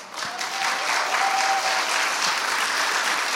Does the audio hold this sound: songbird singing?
no